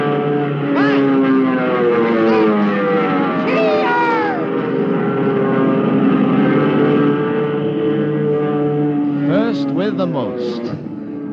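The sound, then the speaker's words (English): Loud, continuous engine roar from aircraft taking off, with whining tones that sweep up and down in pitch several times over a dense, steady rumble. “Hey, look, the planes are taking off.”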